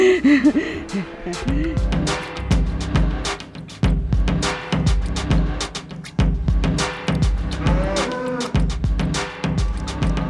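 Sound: calves mooing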